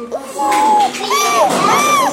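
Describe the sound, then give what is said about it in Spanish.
A group of children voice a horse's neigh together, their high, wavering pitches rising and falling in two long whinnying calls that overlap loudly for about two seconds. “¿Cómo llora un caballo?”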